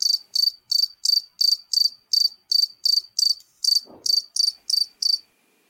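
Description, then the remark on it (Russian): A cricket chirps steadily, about fourteen evenly spaced high-pitched trills in a row, loud, with a brief soft rustle partway through and silence at the end. “Спокойно как-то на душе становилось, когда сверчок на своей скрипке играл.”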